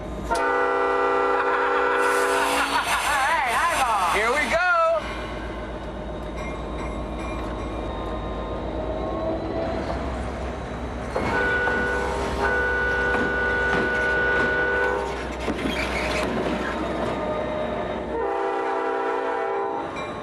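A locomotive whistle blows loud, sustained blasts, sounding again several times over a steady low rumble of the train engine getting underway up the track, with no voices.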